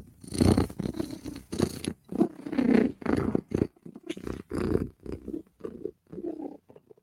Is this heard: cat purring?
yes